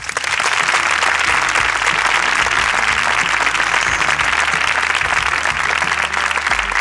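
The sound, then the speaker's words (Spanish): Loud, sustained applause from a sizable audience on the radio program La Ventana for a firefighter from Jaén who volunteered in Valencia, a dense wash of many hands clapping continuously for several seconds with no one speaking. “Acaba de regresar y quiero de verdad, de corazón, que se merece un aplauso.”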